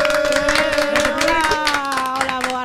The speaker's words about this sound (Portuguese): Forte aplauso, por favor.